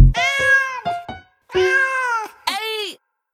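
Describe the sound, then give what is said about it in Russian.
A cat meows loudly: several drawn-out, wavering meows with a couple of short chirps between them, one after another with brief pauses and no talking. “Пусть читает лучший кот.”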